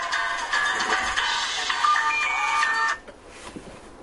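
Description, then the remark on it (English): A mobile phone ringtone plays loudly for about three seconds, an incoming call from the owner's granddaughter, a bright electronic melody that cuts off abruptly, leaving faint room noise behind. “Sorry, I forgot to shut off my phone.”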